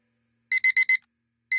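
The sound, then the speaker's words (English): A shrill electronic alarm clock with large red digits reading 0600 beeps four times in quick succession, pauses briefly, then starts another beep, loud with no voices. “The chill autumn air was cut through like a knife by the shrill beeping of an alarm.”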